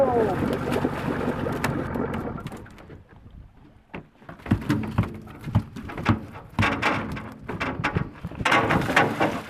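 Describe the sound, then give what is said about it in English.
A Yupik commercial fisherman releases a king salmon back into the lower Yukon River from a small boat, with wind, bursts of splashing and thudding, and faint voices murmuring in the background. “Besides the fishermen on the lower Yukon, this may be the first time anyone has heard a Yupik fisherman releasing a king salmon back into the river.”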